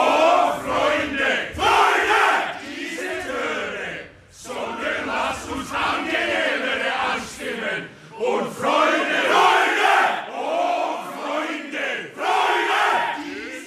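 A choir of many voices shouts forcefully in unison, the harsh, loud chant moving in rhythmic phrases with brief pauses around the fourth and eighth seconds.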